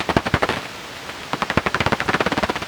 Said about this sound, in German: Wasserfledermaus, wahrscheinlich mehrere Individuen knapp über dem Wasser jagend.